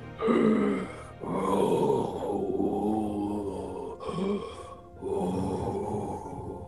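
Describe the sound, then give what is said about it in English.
A voice imitates the deep, gurgling breathing of a giant heard from beyond a door, with several long, loud, groaning breaths in a slow rhythm, each separated by a brief pause, alone. “From beyond, you can hear deep breathing, something so loud that it could only come from a giant.”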